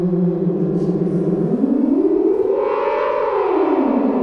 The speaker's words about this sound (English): I'm playing guitar and this strange instrument, Swarmatron, an 8 oscillator weirdo synthesizer that has 2 ribbon controllers on it.